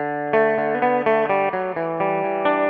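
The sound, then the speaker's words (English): A six-string guitar plays a short riff alone: a steady run of bright, ringing notes with crisp plucked attacks, each shifting in pitch and sustaining into the next, at an even moderate loudness. “And here it is on 6th string.”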